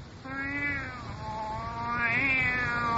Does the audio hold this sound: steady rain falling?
no